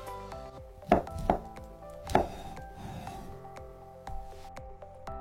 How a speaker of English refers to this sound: For step number 6, find a stick of butter and find a butter knife. Cut around 1/8 of it into the pan. Or estimate how much you really need.